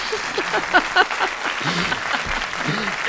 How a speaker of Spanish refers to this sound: Por favor, que se levante el público de todas las gradas y le aplauda. Te voy a despedir con un aplauso, eres un artista.